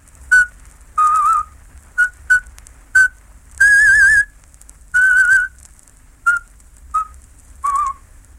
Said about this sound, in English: The Slavic presenter started his talk by whistling a traditional folk song whose refrain went, "Out with them, out with them."